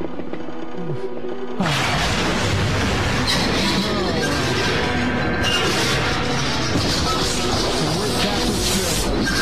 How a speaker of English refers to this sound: Oh, no. The entire ship is exploding.